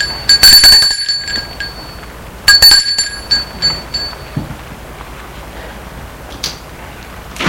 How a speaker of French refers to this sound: Il sonne à la maison.